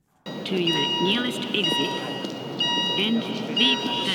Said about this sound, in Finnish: Lost in Translationin loppumetreillä hotellimajoittuja tampaisee aamutakeissaan ulos, vaikka palohälytys osoittautuu turhaksi.